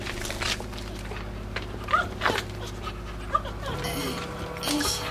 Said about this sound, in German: Ah, ein Hund!